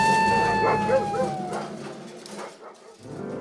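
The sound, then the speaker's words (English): Excitable golden retrievers getting off the leash bark and yip in a quick, excited flurry, mixed with whiny, high-pitched tones that fade out over a few seconds. “My dogs! They're getting off leash!”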